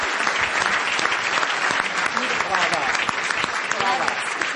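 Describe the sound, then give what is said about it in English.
Sustained audience applause for participants at a question-and-answer session, a dense steady wash of many hands clapping at even loudness for several seconds, with faint voices mixed in beneath it. “Give them a very big applause.”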